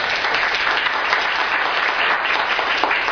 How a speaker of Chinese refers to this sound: 我们掌声谢谢牧师。